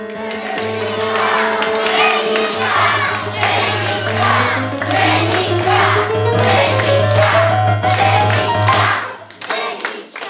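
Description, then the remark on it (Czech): A big circus audience in a big top shouts and cheers loudly and continuously, many voices overlapping, with a steady low droning tone underneath and a rising whine partway through, before the noise drops off at the end. “Co tam ti lidi v tom šapitu tak řvou?”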